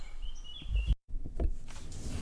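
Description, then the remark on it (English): Faint outdoor birdsong: thin, high whistled notes drift in over the first second against a low rumbling background, followed by a brief dropout and softer chirps. “And I'm outside. I forgot to mention that. Can you hear the birds?”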